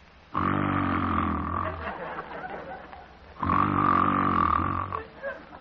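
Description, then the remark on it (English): A voice imitates two ordinary snores of the basic, common or Pullman car form, each a loud, rough, buzzing drone about a second and a half long, separated by a quiet pause for the breath. “In discussing the human snore, or what we call in scientific terms, soft palate calisthenics, I need scarcely point out that the basic snore is the common or Pullman car form, sounding like this.”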